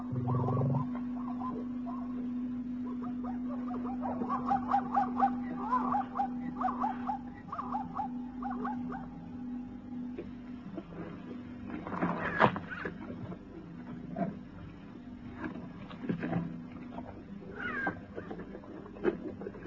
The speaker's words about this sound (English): Jackals. The black-backed jackal calling to his kindred.